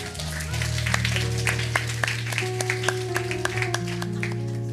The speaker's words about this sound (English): All right, y'all clap your hands for them.